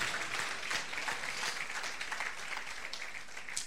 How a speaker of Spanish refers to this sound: Fuerte aplauso, Cristo.